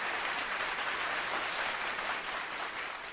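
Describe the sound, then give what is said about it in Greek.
Sustained applause on a radio show, dedicated to Ira Pananidou for the music selections and to Giannis Printezis, a dense, even wash of clapping that stays steady and fairly loud throughout, easing slightly toward the end, with no voices breaking through. “Το χειροκρότημα είναι και για την Ήρα Πανανίδου, αλλά είναι και για τον Γιάννη Πρίντεζη.”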